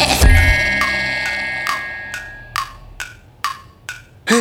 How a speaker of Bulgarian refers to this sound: Часовник. Исто се ма пристојно чука.